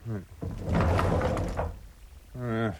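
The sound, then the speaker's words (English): A heavy, good old-fashioned solid wood sliding door rumbles and scrapes open for about a second, with short bursts of a voice just before and after. “It's a bit heavy. That's because it's a quality door. Good old-fashioned solid wood door, that is.”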